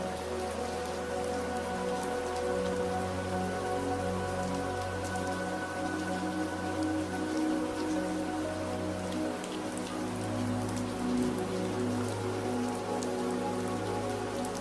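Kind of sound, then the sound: nature, rain falling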